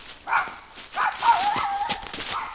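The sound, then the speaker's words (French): A stray dog barks a few times in quick, uneven bursts, loud, with short yelping tones between sharper noisy yaps. “Il lui arrive parfois de rencontrer quelques menaces, comme un chien errant”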